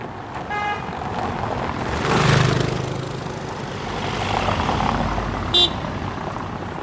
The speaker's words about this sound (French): Voiture roulante sur pavé.